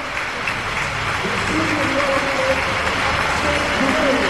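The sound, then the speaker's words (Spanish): A small crowd applauds steadily in a dense, even wash of clapping that holds for the whole stretch, with a voice talking faintly underneath, as Málaga team players such as Butel and Cachicaris are introduced at an arena. “Poca gente, pero ovación, ¿eh?”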